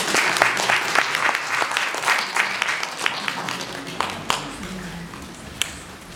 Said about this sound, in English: A round of applause.